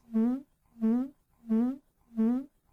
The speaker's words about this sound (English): Now, I'm going to isolate the fart for you now so we can enjoy it. And I will increase the volume a little bit too as well.